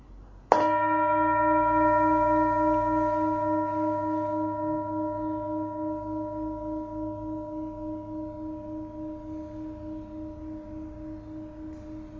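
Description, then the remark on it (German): A single meditation gong in a Buddhist centre is struck once and rings out alone, its deep shimmering tone sustaining and slowly fading with a gentle pulsing wobble over about ten seconds. “Es können unheilsame sein, wie mit jedem Gongschlag wird es näher dem Ende zu, dann kann ich endlich flirten oder was auch.”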